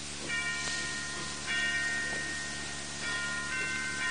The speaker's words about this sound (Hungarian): Kis harang, hadd menjenek imára.